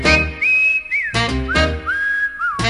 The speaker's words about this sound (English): cause I like to hear the train whistle blow.